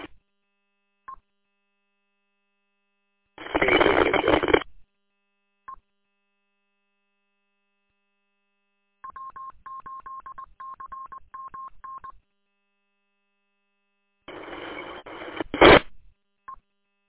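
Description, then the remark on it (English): Rapid bursts of telephone touch-tone dialing beeps sent over a Motorola radio to call in a phone: a steady run of pitched tones, interrupted by loud squelchy radio bursts at the start and end, with brief clicks between. “All right, I'll call in the phone.”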